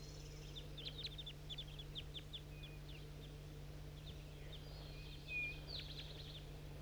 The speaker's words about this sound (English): Calls a 4-3 and I think some wild birds too.